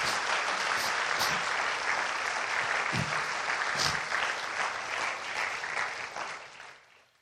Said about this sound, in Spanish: Entonces denle una ofrenda de palmas al Señor esta mañana.